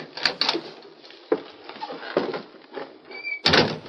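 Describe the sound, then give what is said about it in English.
The door of a little shack on the edge of the town of Sand Springs is opened, with a few rattling knocks and scrapes, a brief thin creak, then a louder wooden clatter at the end. No one speaks. “Go on, open the door,”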